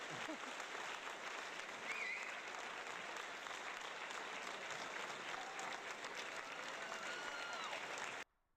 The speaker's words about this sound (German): So, danke auch an alle helfenden Hände und da können wir jetzt einen ganz langen Applaus mal machen. Genau, mehr Applaus.